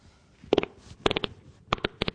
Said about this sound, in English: Did you hear that? That was a wet fart.